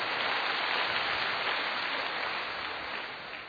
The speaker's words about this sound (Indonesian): Oke. Tepuk tangannya paling meriah buat Allah kita.